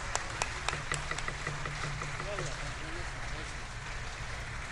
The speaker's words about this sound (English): Lawmakers applauded the announcement that General Joseph Aoun would be the country's 14th president.